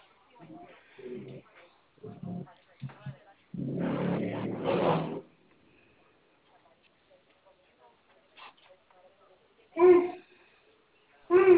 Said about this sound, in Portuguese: Será que tem neném? É uma neta, minha neta. Tô escutando aí um barulhinho de criança. É porque ela acha que eu tô falando com ela, daí ela responde.